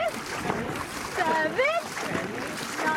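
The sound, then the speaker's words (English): Rhythmic splashing of dragon boat paddles churning water, steady, while voices shout encouragement over the strokes as a team practices the different paddling strokes used when racing. “My team's name is CYC One Breath, and right now, we are practicing different paddling strokes we'll be using when we're racing.”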